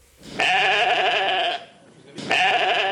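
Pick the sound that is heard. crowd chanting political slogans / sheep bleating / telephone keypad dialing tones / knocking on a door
sheep bleating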